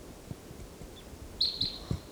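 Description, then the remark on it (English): A wild bird, numbered 384, calls out in a few sharp, high-pitched chirps, the last two louder and closer together, over a low, uneven rumble of background noise with no talking. “That's 384 calling loudly and back.”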